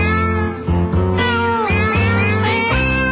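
A novelty song built from cat meows, the mewing sampled and pitched into a steady melody over a bass-heavy backing beat, played loud and continuous with no talking.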